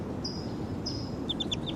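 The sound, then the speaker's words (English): A wild bird calls in the distance: thin, high whistled notes, a couple of held tones followed by a quick run of short, dropping chirps over a steady low background rumble. “Wild bird calling loud in the distance, pointed in the direction of the wild bird.”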